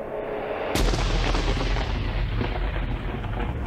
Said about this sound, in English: Above ground, a storm approaches. The dry season is finally coming to an end.